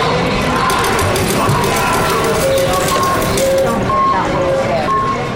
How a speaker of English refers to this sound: Just getting to this workshop required I run the auditory gauntlet of the Reno, Nevada airport with its slot machines, canned music, and crowds.